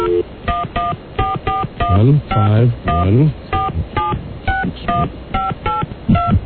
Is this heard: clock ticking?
no